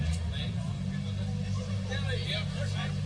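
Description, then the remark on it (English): A rally car's engine rumbles loudly and steadily as Desi Henry's car pulls away from the start, moving off beneath the stand, with a murmur of crowd voices in the background. “We're just going to get a few of the cars moved.”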